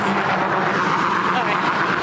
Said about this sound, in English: I don't know how well you can hear me with these cars.